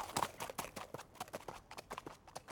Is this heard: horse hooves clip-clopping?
yes